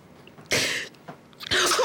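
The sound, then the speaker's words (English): Two abrupt, forceful sneezes burst out about a second apart, loud, each a breathy explosive blast with a quiet pause between them and no talking. “Bless you.”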